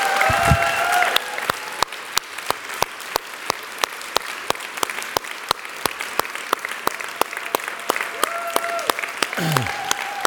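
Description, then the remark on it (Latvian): An audience claps for a man in a steady, even rhythm, sharp claps about three per second for the whole stretch, with faint sustained tones and a brief voice at the start and end. “Dosim aplausu tam kungam.”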